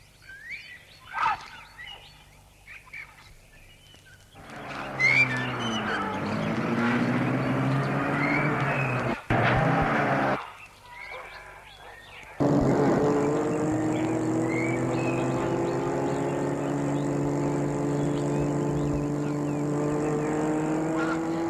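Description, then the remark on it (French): A car rolls slowly along a long gravel drive leading up to a house on a small rise, tires crunching steadily under a low engine hum, with a brief lull midway before the crunching resumes louder and continues. No one speaks. “et il suit un long chemin de gravier qui mène jusqu'à la maison qui est sur une petite hauteur.”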